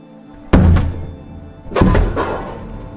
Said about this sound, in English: An undercover officer knocks on her door.